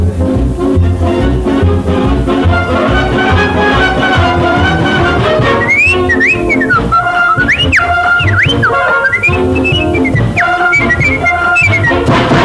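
A whistled melody with sliding notes rises over a loud, busy musical backing in its second half, playing as a short closing tune with no one speaking.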